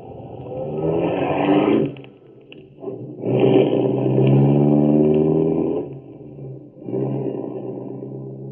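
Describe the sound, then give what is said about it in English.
Loud engines of two cars, one a black souped-up Ford, roar and rev in three long surges, the pitch climbing and falling as they speed down quiet residential 51st Avenue in Cicero at 10:07, with short lulls between passes. “At 10:07, two cars speed down quiet residential 51st Avenue in Cicero.”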